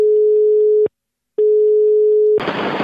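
A loud, steady telephone line tone sounds twice with a short silent gap between, then cuts into a burst of harsh static hiss as a call connects during a phone-in on Radio Toscana.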